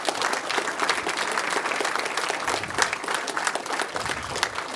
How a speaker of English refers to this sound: So right now, I just want everyone to give you guys a round of applause. Okay.